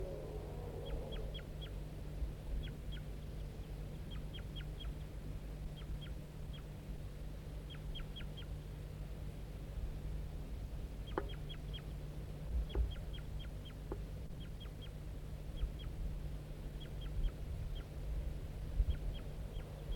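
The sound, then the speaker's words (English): A male crossbill calling softly from the tree next to its nest: short, high chips in quick clusters of two to four, repeating steadily throughout over a low, constant background hum. “So recording, the male is here, calling softly from the tree next to the nest.”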